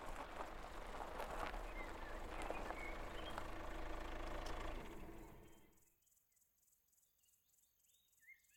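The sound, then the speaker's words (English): A car engine rumbles steadily, then winds down and fades out as the car slows down, leaving a quiet background with faint insect chirping. “The car slows down.”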